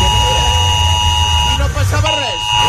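A steady, high electronic Civil Protection (Protecció Civil) emergency alarm tone drones without a break, while someone talks over it briefly toward the end.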